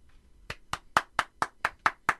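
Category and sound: crowd, weak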